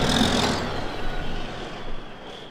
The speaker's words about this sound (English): This is timber country, as evidenced by the fully loaded logging trucks rumbling through town.